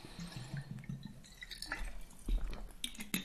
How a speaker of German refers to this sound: Und ich nehme jetzt noch kurz einen Schluck Wasser.